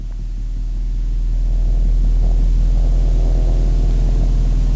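A vibroacoustic chair, a sound-massage device, trembles slightly with a steady, loud low-frequency rumble and throbbing hum that continues without a break and swells slightly at the start. No voices are heard.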